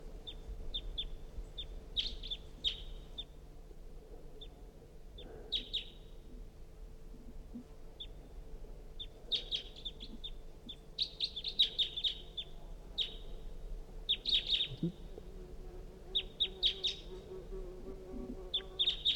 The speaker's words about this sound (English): It's a recording. Pointed at the wild bird. It's giving calls. That was the decoys. Wild bird calling.